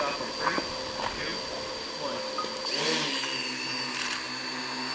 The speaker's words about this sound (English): The small four-prop helicopter hovered high over caribou inside a fenced area, taking aerial images, a demonstration of what the computer program-controlled drones can do to count and assess animal populations in the wild.